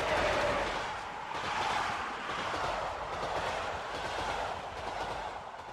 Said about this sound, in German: Weil Züge ganz schön Krach machen, wenn sie an einem vorbeirauschen, arbeiten Experten seit Jahrzehnten dran, den Bahnlärm zu verringern.